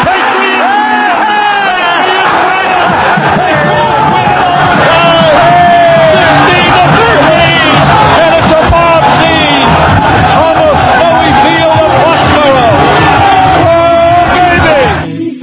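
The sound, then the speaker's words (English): A huge stadium crowd roars continuously as Adam Vinatieri kicks a 23-yard field goal attempt for the Patriots, a dense wall of cheering, yelling and whooping that stays loud and sustained for the whole stretch before easing slightly at the very end. “The crowd will tell you whether he makes it or not.”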